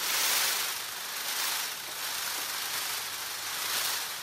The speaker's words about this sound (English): As this male Indian peafowl quivers his outstretched tail, it creates a rustling sound, almost like a drum roll.